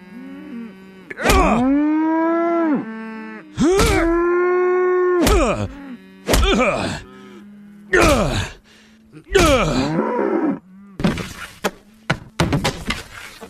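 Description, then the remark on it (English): A cow being slaughtered moos and groans in a series of about five long, loud, drawn-out bellows with sliding pitch, followed by several short, rough, noisy bursts near the end. “When slaughtering cattle, make sure to use gloves and a face guard. Like so.”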